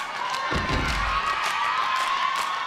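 Sharp slaps and claps land in a quick, irregular rhythm, with a few low thumps, as a group of girls, squatting slightly, perform a complex hand-clapping routine, slapping their thighs, partly buried under loud audience cheering and shouting.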